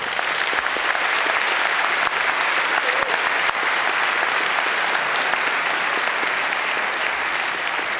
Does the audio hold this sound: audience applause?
yes